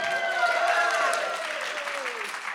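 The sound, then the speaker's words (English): An audience of women breaks into steady, loud applause for themselves lasting a few seconds, with a few voices whooping and cheering over the dense clapping before it starts to taper. “So you can just clap for yourself.”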